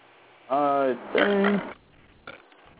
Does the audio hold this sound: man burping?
yes